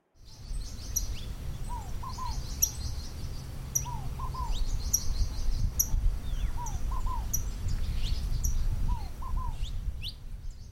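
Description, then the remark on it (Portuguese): Small birds in Nazareth chirp and twitter in the morning in bright, high bursts, while a lower two-note call repeats every couple of seconds, all over a steady low outdoor rumble with no talking. “Na manhã seguinte, os passarinhos de Nazaré cantaram para três homens alegres que já não eram mais ladrões.”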